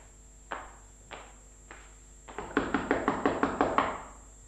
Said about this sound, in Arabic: مساكين، إنه لا شك قد أرعبهم هذا الطرق في هذا الوقت.